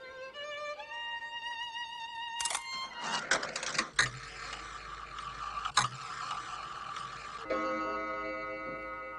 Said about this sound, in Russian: Часы.